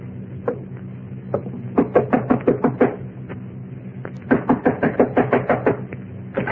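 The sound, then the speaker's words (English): Knocking on a door: a few single raps, then two loud, rapid bursts of about eight knocks each, separated by a short pause, sharp with no one speaking. “Knock on the door, Shannon. This gun says knock.”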